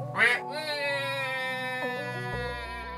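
A single loud, nasal duck quack bursts out at the start, then gives way to a steady, ringing tonal hum that holds to the end.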